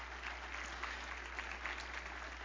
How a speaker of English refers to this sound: Give him a good clap offering. Would you come on?